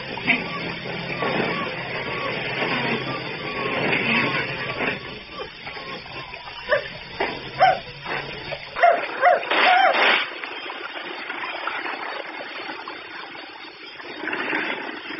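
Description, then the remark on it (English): A dog howls and whimpers in drawn-out, wavering cries with a few sharper yelps, moderately loud over a low background rumble that drops away partway through. “Oh, Father, can't this bloody well stop howling?”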